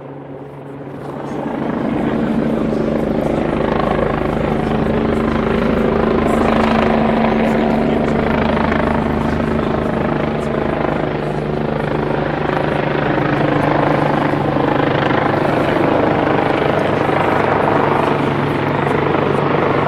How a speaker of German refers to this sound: Der Hubschrauber steht über uns und dann wird es mal langsam Richtung Gästeeingang gehen.